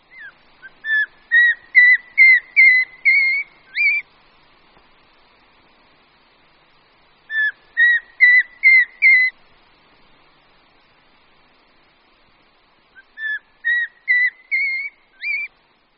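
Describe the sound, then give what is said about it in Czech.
Three separate bursts of a Eurasian pygmy owl's call, each a quick series of short whistled notes climbing steadily in pitch, clear against a quiet background. “Po celý rok, především pak na podzim, se však kulíšci, samec i samice, ozývají zvláštní, ale typickou řadou stoupajících tónů.”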